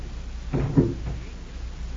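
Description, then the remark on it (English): The prop man's door opens with two quick wooden clunks, followed by a faint creak, against a low steady background hum and no voices. “There's that prop man's door”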